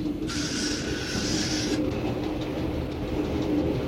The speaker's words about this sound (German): Jetzt lässt der Führer den Zug langsam auslaufen. Auch das ist eine Kunst, dass beim Anhalten nicht alle Reisenden übereinander purzeln.